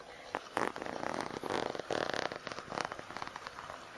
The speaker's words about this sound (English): So, my skirt also unzips from the side.